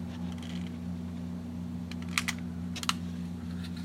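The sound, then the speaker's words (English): Crumpled paper flour bags, lit with a match, catching fire to start a wood fire in a baker's oven, giving a few sharp, scattered crackles and pops over a steady low hum, with no one talking. “Paper on fire.”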